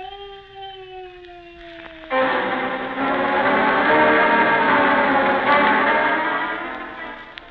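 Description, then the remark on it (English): A drawn-out human moan of pain from behind a small locked door, its pitch sagging slowly downward, then swelling into a louder, thicker wailing that holds steady for several seconds before easing off. “Behind the little locked doorway, somebody moaning. Somebody in pain.”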